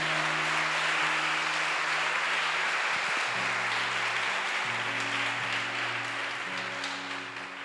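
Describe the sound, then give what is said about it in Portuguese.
An audience at a church service breaks into sustained applause for God, a dense wash of many hands clapping at steady volume, with a low held organ or keyboard chord shifting underneath before the clapping gradually tapers. “Dê uma salva de palmas a Ele.”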